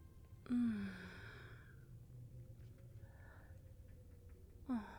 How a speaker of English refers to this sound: You poor thing. You look so desperate with your mouth hanging open, panting like that.